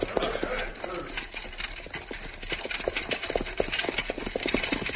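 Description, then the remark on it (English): Horses' hooves clatter in a steady, uneven rhythm as they pull a buckboard wagon along as it gets toward dark, with rumbling wheels and creaks filling the background. “pull up them horses”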